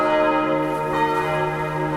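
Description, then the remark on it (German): Several church bells ring together in a full peal, sounded at the end of vibration measurements in which each bell of the church tower was tested; their overlapping tones blend into a loud, continuous wash of resonant clanging with no voices present. “Jede Glocke wurde durchgemessen, zum Schluss auch das Vollgeläut.”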